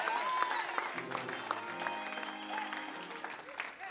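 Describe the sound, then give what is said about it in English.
A crowd claps steadily in a dense, continuous wash of applause as the speaker urges them to praise God, with a sustained low organ-like tone underneath and a few faint voices calling out. “Some of you need to clap.”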